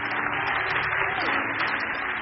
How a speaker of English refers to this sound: Clap for the Bible, maybe. Clap for the Bible.